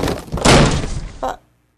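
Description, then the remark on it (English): A heavy wooden crash as a sergeant breaks down a door, a sustained splintering burst followed by a second shorter thud, then quiet. “Break down the door, Sergeant.”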